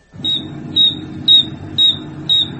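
Insect wings stridulating, a wing file 1 centimeter long bearing 575 ridges giving very high-frequency sound, in five evenly spaced, shrill high-pitched chirps, each about half a second apart, over a steady low rumbling background noise.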